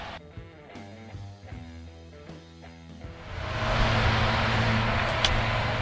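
Tonal music gives way midway to a Toyota Prius hybrid car's steady, loud engine rumble and broad road hiss that holds until the end, with no talking.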